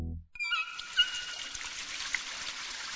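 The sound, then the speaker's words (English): A faucet turns on after a short low bump, and water then runs in a steady, hissing stream with small splashy variations. It continues at an even, moderate level with no voices. “The same amount you could save just by turning off the faucet while brushing your teeth.”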